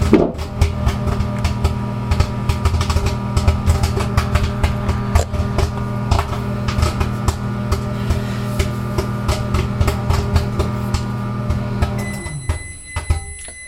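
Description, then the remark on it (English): Popcorn pops irregularly in a running microwave, sharp crackling bursts over a steady low hum; near the end the hum cuts off and a few high electronic beeps sound. “And so after the microwave stops, sometimes popcorn still likes to pop.”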